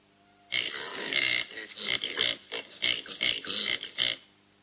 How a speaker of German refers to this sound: Was meint ihr? Ein Schwein, ein Wildschwein, ja. Ein Schwein, richtig, genau. Das war nicht so schwierig.